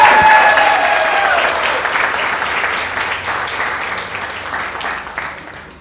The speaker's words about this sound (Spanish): Entonces, ese aplauso no fue súper aplauso. A ver, como si estuviera en el teatro.